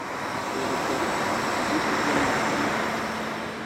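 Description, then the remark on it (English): A steady, fairly loud wash of vehicle noise at a crowded mountain summit, cars and motorcycles pulling in and out of packed parking lots and cog railway trains chugging away off the mountaintop, holding constant for a few seconds without pauses or distinct chugs standing out. No one speaks. “Cars and motorcycles pull in and out of packed parking lots, and COG railway trains chug away off the mountaintop.”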